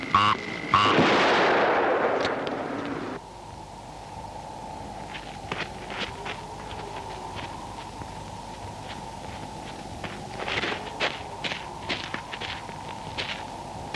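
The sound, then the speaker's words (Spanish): A single loud gunshot from a handmade single-shot gun bursts out with a booming, rumbling tail that fades after a couple of seconds, leaving low ambience with scattered light taps like footsteps. “Puede disparar un tiro.”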